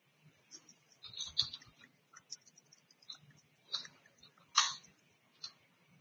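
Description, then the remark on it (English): Quiet, irregular clicking and tapping as keys are pressed on a keyboard in short bursts, with a sharper, louder tap near the end; no talking. “I'm typing this up.”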